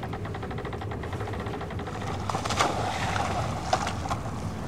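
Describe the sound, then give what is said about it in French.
A small rowboat moves over open ocean waves at night under a full moon, with a steady wash of waves and faint splashes and creaks, a couple of sharper splashes standing out; no one speaks. “Je vogue sur les vagues et le Mandragore s'éloigne doucement dans cette lune de pleine lune.”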